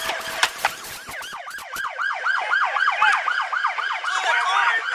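Police sirens in a police video recorded just after a car chase ended in a crash, wailing in a fast, repeating up-and-down yelp, rising and falling rapidly and loudly, with a few sharp clicks and knocks at the start before the siren takes over.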